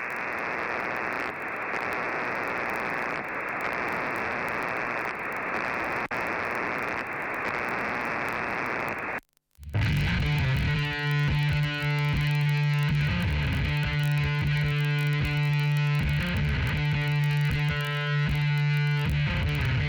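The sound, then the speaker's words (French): A rock song plays loud, opening with a harsh, static-like wash of distorted noise that cuts out briefly before a heavy band comes in with a droning bass and steady rhythmic chords. “pour se détendre après toutes ces bonnes nouvelles, on va se mettre un petit … et …, …”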